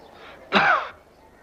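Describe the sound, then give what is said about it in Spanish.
A single rough, sickly cough from Gandhi bursts out, lasting under half a second, with a brief strained rasp trailing off before the quiet returns. “Gandhi tose enfermizo.”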